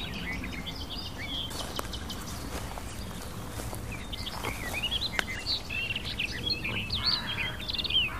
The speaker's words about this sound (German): Wohingegen hier noch näher so Tack, Tack, Tack Rufe zu hören sind, dass sie unsere Kieselsteine sind. Tack, Tack, Tack, Tack, Tack.